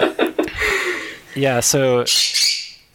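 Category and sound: bird, pet bird squawking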